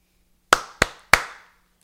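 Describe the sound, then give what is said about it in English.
A cat's bowl knocks three times in quick succession as the cat eats out of it, each a sharp, hard clack with a brief ringing tail, with no talking. “What is that knocking? The cat. Oh, it is? He's just eating out of his cat bowl.”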